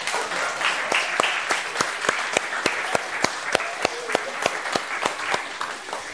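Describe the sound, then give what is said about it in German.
An audience applauds a boy who has come forward and knelt in the middle, for several seconds, with a steady patter of many hands and a few sharp, evenly spaced claps standing out above the crowd. “Komm, wir geben dem Aaron jetzt mal einen Applaus, jetzt bekommt es noch so richtig mit.”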